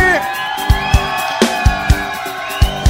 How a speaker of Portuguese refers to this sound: Cadê o grito dos solteiros daqui?